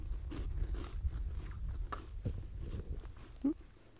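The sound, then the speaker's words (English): Irregular rattling and crinkling of custard cream biscuits being handled during a 10:30 tea break on a bench in the sunshine, a scattering of short crisp clicks and rustles over a low background rumble, with no voices. “Just having my tea break at 10:30, and you can hear the rattle of the obligatory custard cream.”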